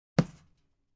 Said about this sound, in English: He poked me in the chest.